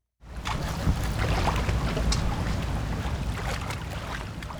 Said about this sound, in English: wields a walking stick as she wades through this tributary of the Connecticut River in Glastonbury, Connecticut.